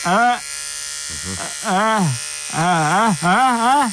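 An electric razor buzzes in four loud bursts separated by short pauses, its droning hum rising and dipping in pitch as it works.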